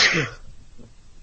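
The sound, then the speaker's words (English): A single sharp sneeze bursts out and fades within a fraction of a second, followed by a quiet voice briefly speaking. “Bless you.”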